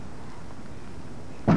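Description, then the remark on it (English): A single dull bonk of a head striking a door breaks through quiet room tone near the end, short and fairly loud, with no talking. “You're not going to have any brain cells from bonking your head on doors.”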